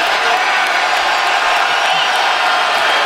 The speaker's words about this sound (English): I don't like to hear the fans cheering. I'm surprised by that, and the players are telling them not to be doing that. No question. To cheer for a player who gets injured.